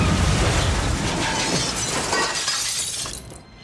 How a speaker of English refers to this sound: Somewhere between the sound of Doc's last cry and the crunch of metal from the car's first roll, Jake lost consciousness.